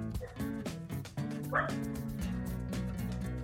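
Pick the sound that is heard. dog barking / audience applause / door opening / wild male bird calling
dog barking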